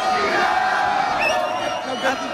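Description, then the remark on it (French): A loud, continuous roar of a crowd celebrating in the rue de Metz after the final whistle of a French football victory, with overlapping shouts and whoops rising above the dense wall of voices throughout. “Coup de sifflet final, et ce sont de véritables scènes de liesse qui débutent rue de Metz.”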